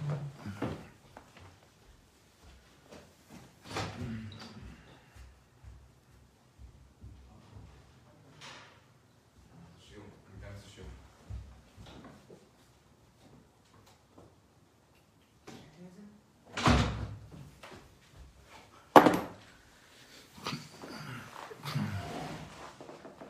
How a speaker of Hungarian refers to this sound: Egy pillanat, ajtót kell nyitnom.